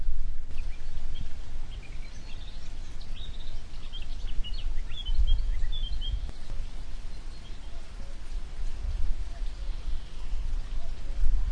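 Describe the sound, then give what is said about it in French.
Several small birds of different species chirp and sing from the hedges around, scattered high calls overlapping in the first half, over a steady soft hiss like light rain or wind. “il y a plusieurs types d'oiseaux différents qui sont en train de chanter dans les haies qui sont autour de nous”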